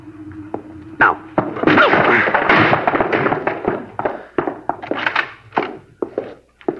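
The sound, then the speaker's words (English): The door of a house where suspects were being sought is forced open: a few heavy thuds, then a loud, sustained crash of splintering and rattling, followed by scattered sharp knocks and clatters that trail off. “All right, now I'll take the door.”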